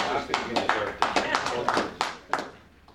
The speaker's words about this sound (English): We don't have too many claps, so that's, yeah, well, this means something.